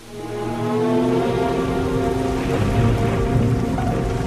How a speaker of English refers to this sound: The rain continued to fall.